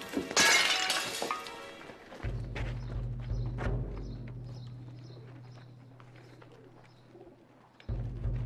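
glass shattering

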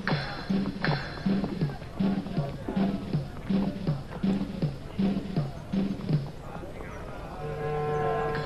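horse galloping away

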